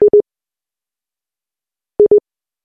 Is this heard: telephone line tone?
yes